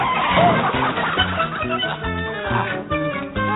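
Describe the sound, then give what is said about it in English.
A chicken clucks in quick, repeated bursts, layered over a busy, rhythmic musical backing that stays steady and fairly loud throughout. “Oh, come here, what? Chicken.”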